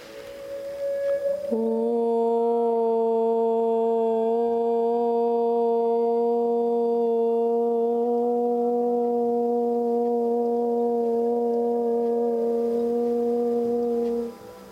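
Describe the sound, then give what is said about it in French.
A single sustained chant of the syllable OM, held to the end of the breath in a meditation exercise, a low steady droning tone with rich harmonics that holds for about thirteen seconds before ending, with no speech. “Tout le corps doit vibrer le son OM.”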